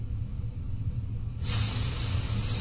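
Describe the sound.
After a quiet stretch with a low background rumble, a voice makes a steady, sustained 'sss' hiss imitating a snake for the letter S, lasting over a second and fairly loud.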